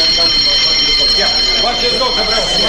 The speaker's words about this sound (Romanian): În sfârșit, clopotul de incendiu.